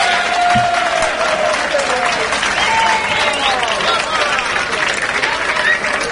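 A crowd breaks into steady, dense applause that holds at an even loudness for several seconds, with faint cheering and whistling tones rising over the clapping.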